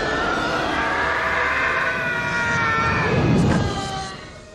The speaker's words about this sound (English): Ever since then, this scream has been known as the Howie Scream.